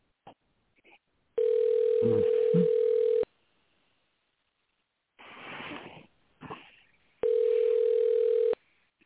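A telephone dial tone hums during a call: two long, steady mid-pitched tone bursts with a pause between them, and some faint rustling and breathy noise in the gap.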